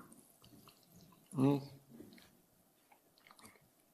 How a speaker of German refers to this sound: Und jetzt kommt Wasser, das ist wunderbar, weil irgendwie habe ich gerade so eine trockene Kehle, danke. Passt ja zum Thema.